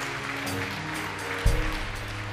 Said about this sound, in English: Yeah, you can clap for that. Some of you are starting to clap.